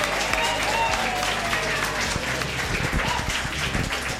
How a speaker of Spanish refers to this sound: Damos gracias con un aplauso, un fuerte aplauso a doña Dora.